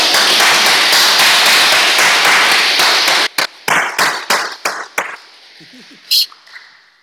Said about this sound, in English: So why don't we give everyone who's serving today a round of applause?